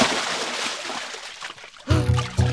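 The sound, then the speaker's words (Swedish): A big splash in water made by a large pike, a loud burst of sloshing spray that churns for over a second before fading, then a few short tonal notes follow. “Det var ett väldigt plask av en väldig fisk.”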